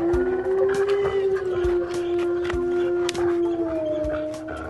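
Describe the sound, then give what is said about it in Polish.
A wolf running along a forest road howls toward the moon in one long, sustained, wavering tone that holds steady before bending upward near the end, loud, with faint clicks and rustles underneath. “Biegł sobie leśną drogą, wyjąc od czasu do czasu w stronę księżyca.”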